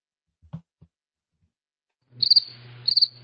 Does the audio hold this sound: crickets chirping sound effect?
yes